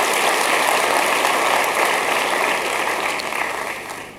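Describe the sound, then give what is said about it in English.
A crowd gives a hand clap to Jesus, clapping steadily, a dense, even wash of many hands with no individual beats standing out, holding loud for a few seconds before tapering slightly at the end. “Let's give a hand clap to Jesus.”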